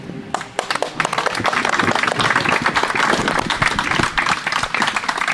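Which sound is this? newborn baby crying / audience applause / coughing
audience applause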